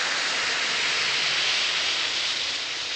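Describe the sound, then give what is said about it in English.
One or two Alka-Seltzer tablets fizz steadily in a glass of water, a dense hiss of tiny bubbles that holds at an even level for the whole three seconds, with no voices. “Instead, simply drop one or two tablets of Speedy Alka-Seltzer into a glass of water, like this. Listen to it fizz.”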